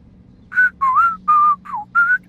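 Someone whistles a short, wavering pop tune off-key in five separate notes, some sliding up or down in pitch, clear over a low steady background hum, with no talking.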